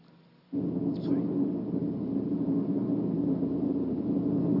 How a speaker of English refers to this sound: We hitch a ride in an oil company plane thanks to the efforts of our Canadian External Affairs officer in Jakarta and to the courtesy of Marathon Oil.